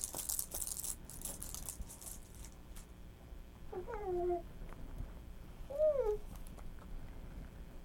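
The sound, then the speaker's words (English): Bright metallic jingling of plastic toy keys being shaken in quick bursts for the first couple of seconds, followed later by two short, whiny meow-like toy squeaks. “You got some keys?”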